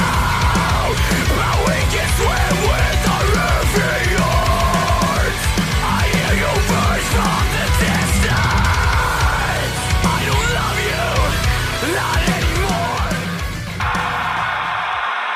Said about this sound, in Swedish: Håll för öronen nu, för nu kommer mitt vårskrik.